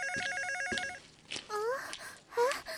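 A home landline telephone rings with a fast, warbling electronic trill that lasts about a second, then stops. Short rising and falling vocal sounds follow.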